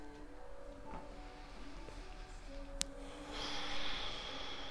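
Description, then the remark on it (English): Quiet breaths drawn in through the nose as the chin goes up to the ceiling and pushed out as the chin comes down to the chest, in a turtle-breath exercise; the exhale grows into a louder airy rush near the end, over a steady low hum with one sharp click midway. “That's breathing in through your nose as your chin goes up to the ceiling, and then breathing out as your chin comes down to your chest.”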